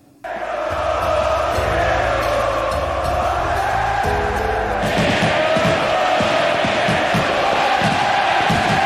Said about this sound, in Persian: بریم با هم صدای تماشاگرها و صدای مارادونا رو تو اون روز خاص گوش کنیم